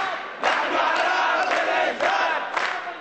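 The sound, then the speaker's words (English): About 3,000 supporters of Iraq's Communist Party chant loudly in rhythmic, repeated bursts at an election rally in Baghdad's Al-Shaab Stadium, voices swelling together every half second or so, with clapping mixed into the steady roar. “Chanting and clapping, about 3,000 of the party faithful braved the possibility of attack to pack into Baghdad's Al-Shaab Stadium.”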